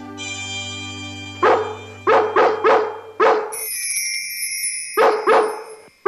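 Dogs in London bark in sharp, urgent bursts, around six loud barks in uneven clusters, over a sustained tonal drone and a high whistling tone, with no one speaking.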